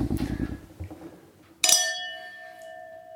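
A single bright clink of glasses touching in a toast, its clear ringing tone lingering and slowly fading after some low, muffled handling noise.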